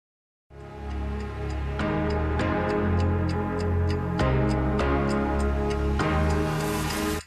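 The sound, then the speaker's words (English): A steady, evenly spaced clock ticking rides over sustained, swelling music chords at the end of a song, moderately loud and continuing until the track cuts off. No one speaks. “Little clock ticking there at the end of that song.”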